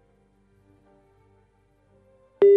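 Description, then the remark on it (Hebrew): A telephone ringback tone purrs faintly and steadily, as on an outgoing call to a radio contest winner, then a loud, sustained electronic tone suddenly cuts in at the end. “אם אתם מצלצל לכם עכשיו הטלפון, שתרימו אותו.”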